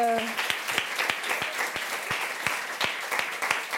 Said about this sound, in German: Oh, dafür mal einen kleinen Applaus.